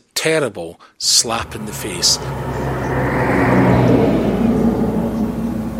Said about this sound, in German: Im Minutentakt rauschen die Lastwagen aus dem Werkstor der Nissan-Fabrik in Sunderland mit neuen Autos Huckepack.